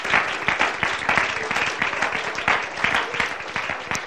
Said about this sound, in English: Can we all give the Lord a hand clap of praise tonight?